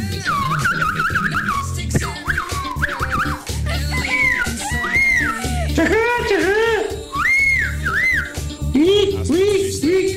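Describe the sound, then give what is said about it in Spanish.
A man whistles imitations of bird songs: quick warbling trills, rising and falling slides and short chirps, loud and continuous for about ten seconds over a dense, rumbling background. “el hombre que se sabe todos los cánticos de las aves.”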